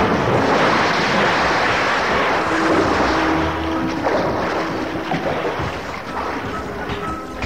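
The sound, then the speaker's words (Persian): Loud, continuous splashing and churning water of a castle moat as Robin jumps into it, a steady rushing wash that eases slightly toward the end, with no voices present. “ولی رابین با پریدن توی خندق فرار کرد.”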